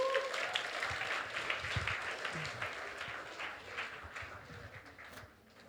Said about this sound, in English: Somebody give the Lord a good hand clap.